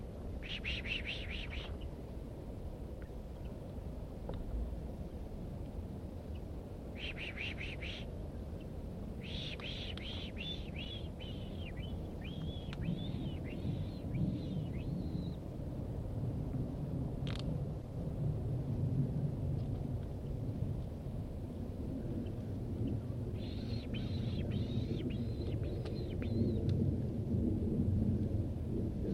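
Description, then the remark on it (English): Wild birds, a female and a male, call outdoors in several separate bursts of high, rapid chirping and chittering, the male chittering more. The bursts are spaced out over half a minute against a steady low rumble of wind-like background noise. No one speaks. “Recording the wild birds.”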